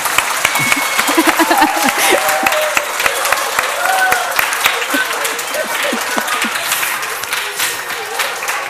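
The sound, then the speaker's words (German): Sustained audience applause, a dense crackle of many hands clapping steadily for several seconds, with a few voices calling out underneath. “Ein Applaus für den Saukerl.”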